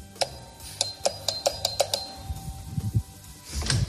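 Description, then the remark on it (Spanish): A rapid run of about seven bright, metallic strikes at a flat door on the second floor of a building on a Madrid street, each with a ringing tone, followed by a lingering hum and softer low thuds and shuffling. “Voy a llamar a la puerta.”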